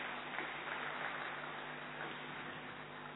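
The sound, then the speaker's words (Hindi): An audience at a gathering claps steadily for about three seconds to welcome a respected elder sister (Didi), a dense, even patter of many hands with no voices over it, fairly soft overall. “सभी एक हाथ की ताली बजाकर आदरणीय दीदी का स्वागत करेंगी।”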